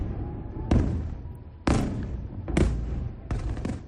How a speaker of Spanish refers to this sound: Se oyen las explosiones, sí. Sabemos lo que son los misiles de Hamas. También sabemos lo que son los misiles de Hezbollah. Ahora, misiles de Irán es la segunda vez.